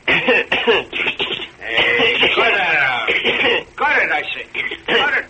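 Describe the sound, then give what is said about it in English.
Two people cough deliberately and repeatedly, their harsh, forced hacks overlapping in a steady, exaggerated stream that sounds loud on a thin, radio-like recording. “Didn't we cough right?”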